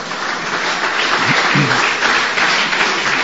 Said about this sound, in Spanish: Mire cómo aplaude la señora, sí.